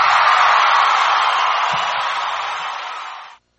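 A steady wash of audience applause welcoming a guest on the radio show Patriot Broadcast from the Trenches, 89.5 Micro FM, Chiloquin; dense and loud, with a few faint whoops and crowd murmurs underneath, tapering slightly before stopping abruptly after about three and a half seconds.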